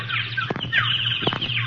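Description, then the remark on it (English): Dense, busy bird chirping fills the scene, high and continuous, among birds including a woodpecker, with two brief sharp bursts cutting through about a second apart. No one speaks. “That's a woodpecker.”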